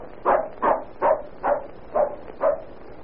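A dog named Whiskey barks six times in a steady, evenly spaced rhythm, each bark short and mid-pitched, with no voices over it.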